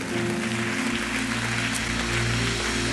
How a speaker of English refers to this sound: Let's give our Lord a clap of offering before we go.